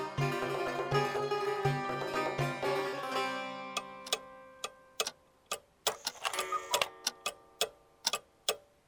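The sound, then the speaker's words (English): Several antique mechanical clocks from the 17th to 20th century, displayed in a museum, tick in overlapping, uneven rhythms, sharp clicks ringing out clearly after a sustained chiming tone fades away at the start. No one speaks. “This floor includes clocks and watches collected from 17th to 20th century. There are also many mechanical and alarm clocks in here.”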